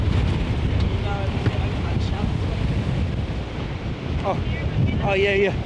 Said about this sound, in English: So windy.